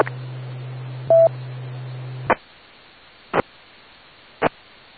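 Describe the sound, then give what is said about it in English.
A single short touch-tone beep sounds over a steady low hum, followed by three sharp clicks spaced about a second apart on a quiet line. No one speaks. “Will you excuse me for a minute, Rich? I have a phone call.”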